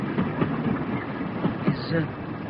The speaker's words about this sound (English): Look, the fireman's waving to you. Ah, I like watching trains go by.